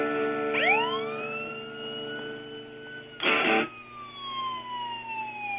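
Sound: emergency vehicle siren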